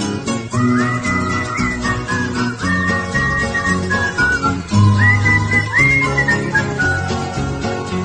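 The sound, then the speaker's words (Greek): A performer whistles a sliding, melodic tune in a competitive whistling performance over full instrumental accompaniment, the whistle clear, loud and prominent throughout, with no talking. “Πάμε τώρα σε μια άλλη κατηγορία σφυρίγματος, το σφύριγμα το αγωνιστικό.”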